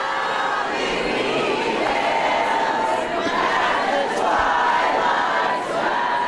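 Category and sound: crowd, crowd booing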